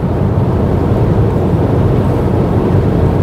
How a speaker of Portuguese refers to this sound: Mas são só dois motores nesse carro, mesmo assim ele é rápido. Bem rápido.